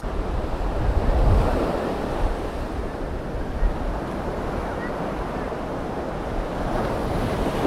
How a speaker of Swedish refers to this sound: Ja, det ni hörde alldeles nyss, det var så vågorna utanför Koh Samui, en ö i Thailand.